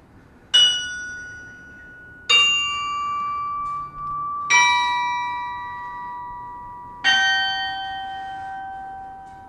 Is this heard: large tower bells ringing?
yes